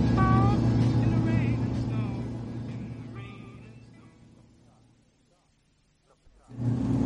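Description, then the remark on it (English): A car drives on a lonely road between Dundee and Aberdeen with a steady low engine hum. Higher wavering, voice-like tones sound over it early on. The hum fades almost to silence, then abruptly returns at the end. “Stop the car.”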